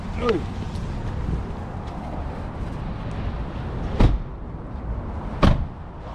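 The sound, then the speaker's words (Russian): A Tesla car door clunks open and then thuds shut a moment later as people get out, two sharp knocks over a low rumbling background with faint voices. “Эта ручка, ей пользоваться нельзя. Это экстренная. То есть это для случая, если машина заблокирована.”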